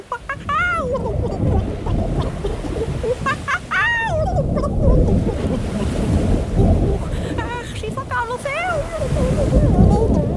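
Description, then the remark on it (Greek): Wild ocean waves crash and churn in a steady, loud roar with gusting wind, while high-pitched squealing cries rise and fall above the surf several times. “Την ίδια στιγμή τα άγρια κύματα παρέσερναν τη μαϊμού, γαντζωμένη στο κατάρτι του καραβιού όλο και πιο μακριά.”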